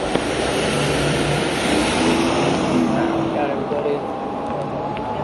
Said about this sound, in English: There's another car coming, but we're going to cross here as soon as the car's done.